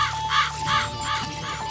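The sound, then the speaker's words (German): A raven caws repeatedly in the Rabe Info radio jingle, about five harsh calls in a steady rhythm, clear over a sustained musical tone and low hum, with no talking. “Rabe Info.”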